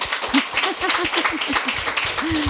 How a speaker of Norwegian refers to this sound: Och det är ju, alltså, ja, det förtjänar en applaus.